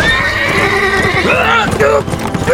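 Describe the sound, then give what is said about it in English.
A black horse whinnies loudly, its rising and falling cries running over a quick, steady pounding of galloping hooves that carries on throughout. “The black horse galloped off ahead of him.”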